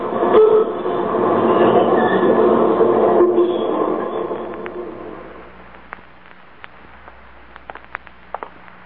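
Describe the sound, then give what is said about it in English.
A loud subway train rumbles and roars past, its broad noise fading after about five seconds into a quieter hum with scattered sharp clicks and squeaks. “Well, do you mind if I ride with you on the subway?”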